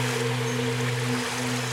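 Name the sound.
spring water flowing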